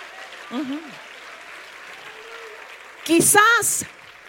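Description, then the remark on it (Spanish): A crowd claps steadily in the background, a dense, crackling patter of applause that continues throughout, while a voice speaks briefly over it at the start and again more loudly near the end. “Si usted quiere, aplauda. Y si no, no.”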